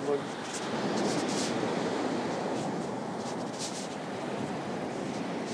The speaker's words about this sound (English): Nice to record the sounds of the sea, isn't it? Look at that, right under us there.